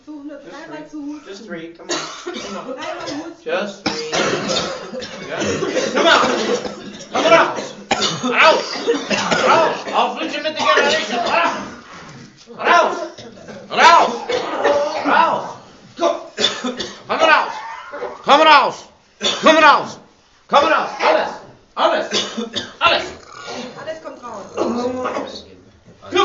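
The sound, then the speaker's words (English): A person coughs several times in loud bursts, mixed with throat clearing and other voiced sounds that run almost continuously with short pauses between. “Just try it. Just do three coughs.”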